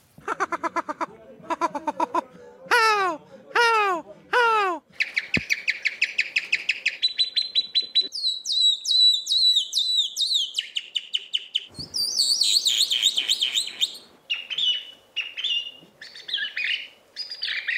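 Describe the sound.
A competitor in a European bird song imitation championship whistles a loud imitation of birdsong, running through sharp descending chirps, rapid trills and high warbling phrases in quick succession, with no talking.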